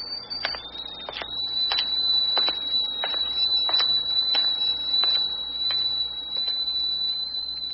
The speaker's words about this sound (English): Land sakes! Hear that? That's my tea kettle a-whistling over on the hot plate.